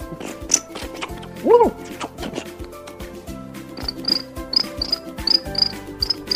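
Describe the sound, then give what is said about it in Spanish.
Crickets chirp in a steady, rhythmic series of short, high-pitched pulses that start partway through. They sound clear over a soft background of other night sounds. “Los grillos, por ejemplo, se ponían a preparar sus violines.”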